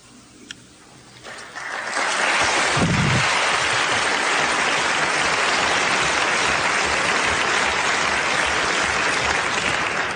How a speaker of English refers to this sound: It's helpful when you clap. That gives me a chance to hydrate it.